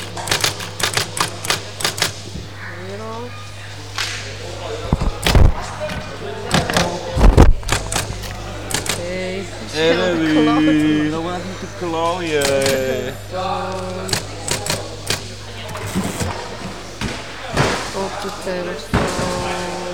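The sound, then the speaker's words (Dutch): Rapid, irregular clacking of typewriter keys runs nearly throughout, with occasional heavier thumps, while people talk over it in the background; they are typing up what they have written. “Wij zijn aan het typen.”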